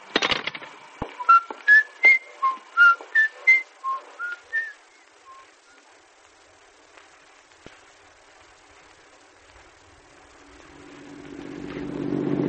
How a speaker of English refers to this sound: Hey, what do you know? The train from Wayne City's pulling in right now.